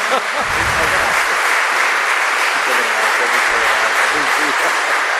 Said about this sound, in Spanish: Muy bien, pues ante todo le damos la bienvenida a Monseñor con un fuerte aplauso, que está aquí en medio de nosotros.